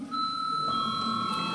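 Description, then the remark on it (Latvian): A parliament chamber bell rung on request before a vote on the seventh proposal: a steady, sustained electronic tone with a second higher pitch joining partway through, ringing without pause over a low background murmur. “Lūdzu zvanu.”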